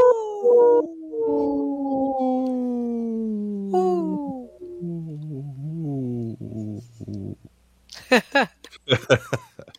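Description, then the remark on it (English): A person imitates a wolf, holding a long, wavering howl that slides slowly downward and fades, followed by a few short, breathy bursts of sound near the end. “Howling for Wolves, protecting wolves for future generations. Howl!”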